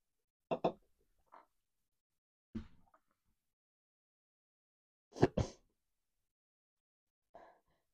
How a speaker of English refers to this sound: I'm like out of breath. Like the breathing.